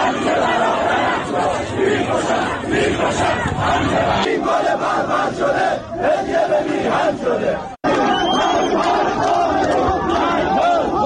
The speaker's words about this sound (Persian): در ویدیوهای منتشر شده از مراسم خاکسپاری امید سرلک در شهر علی گودرز استان لرستان، اما حاضران علیه حکومت شعار می دهند.